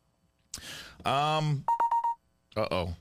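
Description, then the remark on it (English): A quick laptop notification chime, a short cluster of bright beeping tones, sounds between bursts of people talking. The chime is clear. “Means you got a notification on your laptop.”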